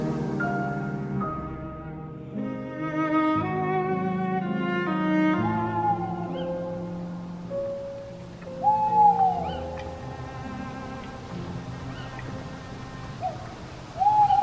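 A barn owl hoots a few times, short wavering calls spaced several seconds apart, following a stretch of sustained low droning tones; no one speaks.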